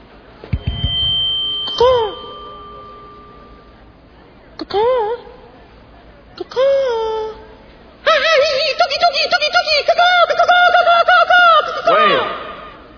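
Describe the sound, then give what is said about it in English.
In a mall, voices mimic bird calls with 'caca, caca' and 'tookie, tookie': a few separate swooping, warbling cries, then a longer burst of rapid, overlapping chirps and trills, fairly loud. “I think we've established that caca, caca, and tookie, tookie don't work.”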